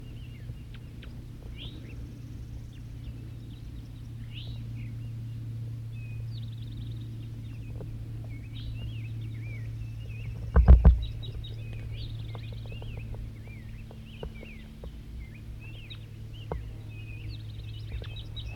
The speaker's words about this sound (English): Another wild bird, another male's coming in. Wild bird singing.